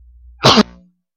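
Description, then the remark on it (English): A single sharp, explosive cough bursts out, loud and brief, with a short fading tail and near silence on either side. “And so, I'm going to cough again”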